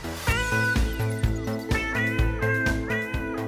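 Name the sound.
cat meowing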